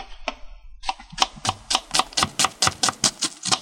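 A knife chops onions coarsely on a board: a quick, steady run of a dozen or so crisp, sharp knocks. It starts with a few scattered cuts, then settles into an even rhythm, with no talking.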